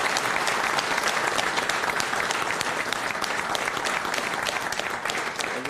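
warm applause

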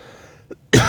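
coughing fit

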